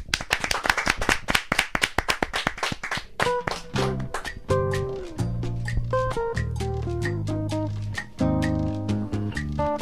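A burst of close, energetic hand clapping fills the first few seconds, then gives way to an upbeat music sting with punchy beats and sustained tones.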